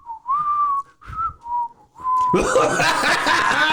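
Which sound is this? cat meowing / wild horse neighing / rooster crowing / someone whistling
someone whistling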